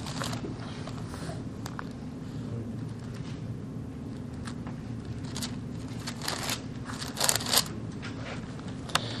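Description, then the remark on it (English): An audience turning Bible pages to Philippians chapter 2: many thin sheets rustling and flipping at once, a steady scattered crinkle with a few sharper flicks near the end, over a low hum with no one talking. “Please turn to Philippians chapter 2 and verses 3 through 11.”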